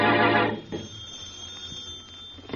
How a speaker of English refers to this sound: And in the Brumley home, the phone rings.